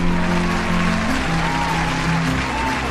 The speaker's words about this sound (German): Begrüßen Sie bitte mit einem kräftigen Applaus Christoph Strasser.